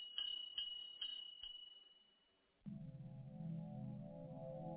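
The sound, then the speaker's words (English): The small bell on a shoemaker's shop door tinkles four times in quick succession, bright, fading away before a low, steady droning tone takes over. “He laughed out loud, and just as he did, the bell on his shop door tinkled along with his laughter.”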